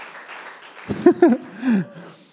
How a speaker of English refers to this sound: I think applause is the funniest thing ever, where it really is like, are we going to do? No? Okay. All right. I'm not going to be the solo clapper.